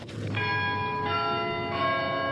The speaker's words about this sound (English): And during the prayers, we heard a sound, church bells. It's amazing. You know, it's amazing to see two things together. You know, who can imagine, you know, church bells ringing and a Muslim giving a sermon?